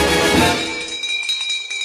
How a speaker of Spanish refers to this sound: La mecánica contemplaba tocar una campana cuando algún concursante quedaba descalificado.